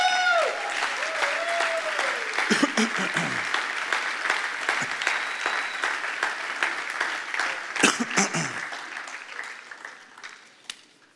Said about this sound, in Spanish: ¿Tú le puedes dar un aplauso al Señor ahí?